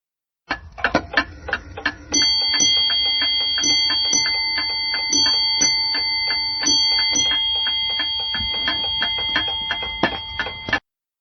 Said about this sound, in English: At the beginning/end of a four-hour watch, it's the same time, the bell strikes 8 times in groups of 2 strikes with a tiny pause in between. Here is an example from my now-working ship's bell clock.